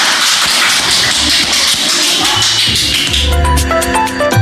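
A dense wash of audience applause fills the opening seconds, steady and loud, then music with sustained tones rises in and carries on beneath the fading clapping.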